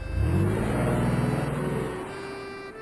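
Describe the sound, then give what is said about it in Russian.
A car engine rumbles, its low hum climbing briefly before easing off and settling as the car arrives and slows to a stop, bringing the newlyweds home in the car of Friedrich's boss. No one speaks. “Оказывается, шеф Фридриха, находясь в деловой поездке, встретился с молодоженами и пригласил их остаток пути поехать на его машине. И вот они приехали.”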